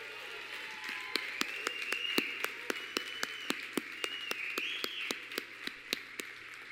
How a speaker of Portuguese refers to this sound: Vamos aplaudir Jesus na vida deles.